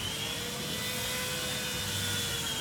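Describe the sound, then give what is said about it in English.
A chainsaw runs steadily for a few seconds, its engine giving a harsh, buzzing drone with a high whine on top. The loudness holds constant and no one speaks. “Yep, that's a chainsaw, but it's not for taking down trees or a horror movie prop.”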